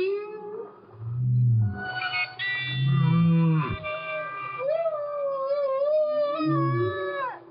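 A whale's low, moaning song of swooping and rising calls plays alongside a sustained, reedy clarinet note that holds steady, both fairly loud, with no talking.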